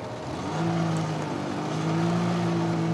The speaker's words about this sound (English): jet skiing with his family at Lake Pleasant.